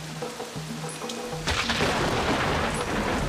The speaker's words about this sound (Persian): نگاه به این هوا کن، بارون میاد